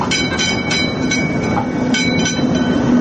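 The Nostalgija electric tram, a replica of the first electric tram built in 1895 in Austria-Hungary, rumbles along its rails in regular Sarajevo city traffic. It makes a steady loud roll and a quick, regular clack of wheels over rail joints. No voices.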